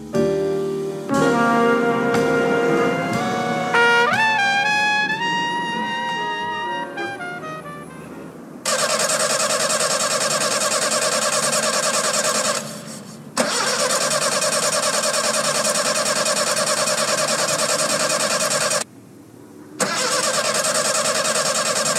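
A car engine cranks with a rising, whining starter sound for several seconds, then settles into a steady, loud droning roar broken by two brief dropouts; no one speaks.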